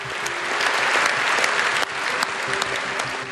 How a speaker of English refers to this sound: Those parliamentarians gave him a lengthy round of applause.